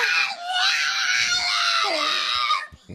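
A pig screams in one loud, shrill, wavering squeal that holds for about two and a half seconds, then cuts off abruptly. It sounds close, with no talking over it.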